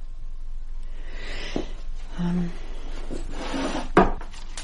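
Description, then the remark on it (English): A wooden desk drawer in Malcolm's study, full of stationery, slides open with a scraping rub, rattling contents and a couple of sharp knocks, including a louder thud near the end. “The desk drawers are just full of stationery.”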